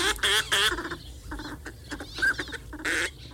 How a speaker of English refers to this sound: Northern pintail, slender and elegant ducks, seek shallow ponds and wetlands throughout the northern hemisphere.